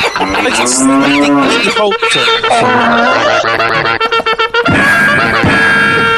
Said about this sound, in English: It's like, was that like a cow cavalry charge? It was like a cow blowing, and then there was a cavalry charge. I just figured that we needed that.